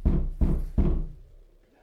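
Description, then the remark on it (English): Three heavy knocks on a door land in quick, even succession, each with a deep thud, followed by a short fading resonance and then quiet. Someone knocks on every door in a daily check to get a response from the occupant. “Chaps every door to get a response.”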